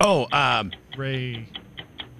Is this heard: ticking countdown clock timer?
yes